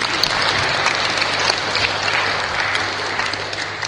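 An audience claps steadily for several seconds, a dense, even wash of many hands with no voices rising above it.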